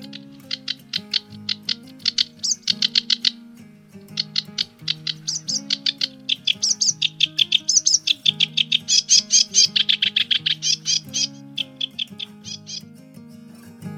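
A sedge warbler sings a long, fast chattering song of rapid, scratchy high-pitched notes that quicken into a dense churring run, all over a low, shifting tonal backdrop.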